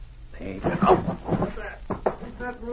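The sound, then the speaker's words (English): A wooden door creaks as a Mountie pushes it open, its hinges groaning in drawn-out tones as two men enter a darkened room. It then shuts with a couple of solid knocks near the end. “They entered a darkened room, shutting the door behind them.”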